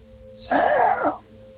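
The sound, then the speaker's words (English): A voice imitates a strained, strangled gasp, one short breathy rasp lasting under a second, rising and then choking off against a quiet background hum. “And all of a sudden, I hear a faint gasping for air voice as though someone was being strangled call out my name.”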